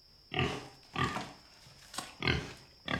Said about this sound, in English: Oh, my golly. The governor's pig.